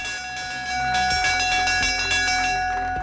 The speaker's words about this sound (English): Well, that's the sound that says cricket is about to begin. The Lord's Bell,